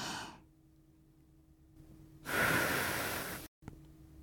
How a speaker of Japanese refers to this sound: マスク越しの吐息を吹き込みながら、好き好き。